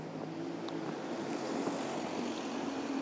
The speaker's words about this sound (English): That sounds like a bus going in the opposite direction. What we need is one going this way, funnily enough.